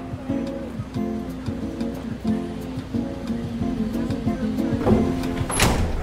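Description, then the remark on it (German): A metal container door is pulled open to let a woman in, ending in a loud scraping, rattling rush near the end, with a steady humming background and faint murmuring beneath. “öffnet die Tür und bittet sie hinein.”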